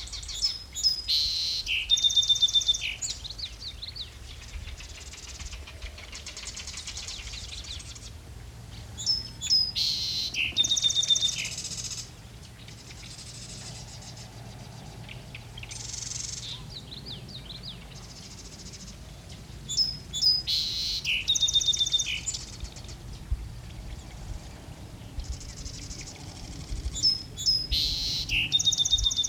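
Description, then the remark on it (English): A song sparrow sings repeated bright, trilling phrases at steady intervals, clear, over a quiet outdoor background with faint low rumble and no voices. “This has been WSHU's Bird Song Break featuring the song Sparrow.”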